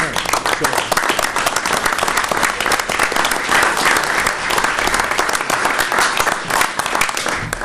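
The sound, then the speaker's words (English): A roomful of people applauds staff steadily for several seconds, the dense clapping holding at an even, fairly loud level from start to finish without fading. “And you're all here, and I'd like us to applaud.”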